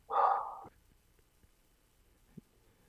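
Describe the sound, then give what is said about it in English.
A single loud, drawn-out bark from Mabel the dog rings out at the start, followed by near silence with a few faint soft thumps and a brief small noise toward the end. “I feel like we're gonna let Mabel bark it out.”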